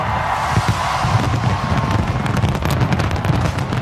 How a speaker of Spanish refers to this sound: Así han sonado los fuegos artificiales en Sydney